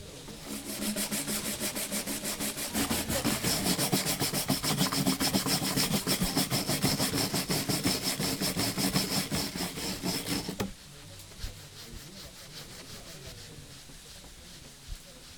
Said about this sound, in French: Il frotte les pierres, les astique, les récure, les briques.